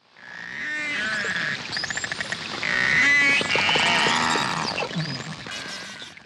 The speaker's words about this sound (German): Narwale geben verschiedene Laute von sich, den sogenannten Walgesang.